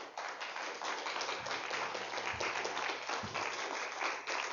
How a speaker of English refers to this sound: I want you to just give the Lord one more hand clap of praise this morning before you sit.